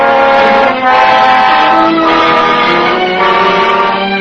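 A train's horn blares loud in a long, sustained harmonic tone, swelling slightly in a few places, with the rumble of the train on its rails underneath; no voices.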